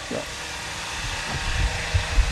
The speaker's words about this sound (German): Ja, man hört, es ist eine Baustelle. Hier wird auch fleißig schon gearbeitet, dass das dann auch alles rechtzeitig fertig wird.